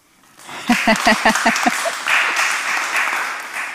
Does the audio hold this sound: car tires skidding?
no